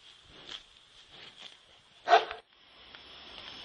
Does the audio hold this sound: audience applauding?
no